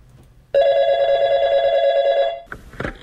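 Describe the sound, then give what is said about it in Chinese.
A single loud electronic telephone ring, a steady buzzing tone lasting about two seconds, followed by a brief click as the line is picked up. “就可以打现场嘅电话询问嘅。”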